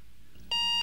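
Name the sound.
alarm clock beeping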